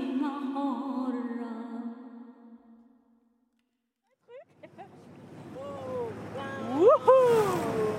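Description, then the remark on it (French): A boat approaches across the water, its broad wash of engine and water noise swelling louder over several seconds while voices call out over it, following a voice heard alone and a brief pause. “un bateau qui arrive, là, on va se prendre un truc.”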